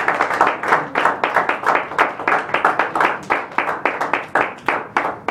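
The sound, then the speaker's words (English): A church audience claps in praise during morning worship, their hands in a steady, lively rhythm, the many overlapping claps loud, continuing without a break for several seconds. “Let's give the Lord a hand clap of praise this morning and worship.”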